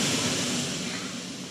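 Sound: ocean waves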